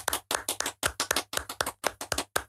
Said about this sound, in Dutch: Ja, dat is de jury die applaudisseert mee. We zitten met z'n tweeën vandaar.